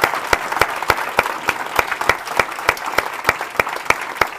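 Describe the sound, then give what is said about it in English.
A crowd at the Center for Global Development applauds Michael Kremer steadily, many hands clapping in a dense wash with sharper individual claps standing out at irregular intervals. No voices are heard over it. “Let's all give Michael Kremer a big round of applause.”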